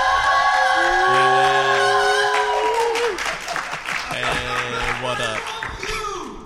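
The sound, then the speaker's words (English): A crowd at PuckleCon 2018 cheers and applauds loudly and steadily. Whoops and shouts rise over continuous clapping, and sustained tonal voices and a few rising shouts stand out above the roar. “I guess they want to cheer, so I'm going to let them...”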